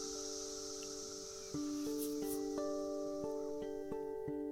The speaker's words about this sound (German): Läuft schon. Wir hören erstmal so ein paar Zikaden.